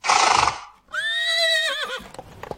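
A horse neighs loudly after a brief snort, its whinny a high, wavering harmonic cry that trembles and falls before trailing into breathy snuffles.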